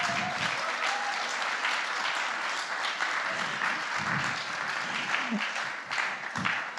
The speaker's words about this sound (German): Danke, den Applaus habt ihr wirklich verdient, meine Lieben.